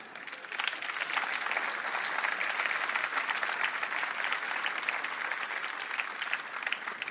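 A crowd of people standing around applauding after a motivational talk, dense overlapping claps forming a continuous, fairly even wash of sound with no speech, sustained throughout.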